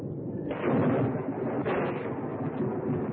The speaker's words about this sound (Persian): آن وقت آسمان که از صبح ناآرام بود تیره تر شد. برق زد، آسمان قرنبه‌ای دهکده را لرزاند و سراسر ظلم‌آباد یک سر زیاد شد.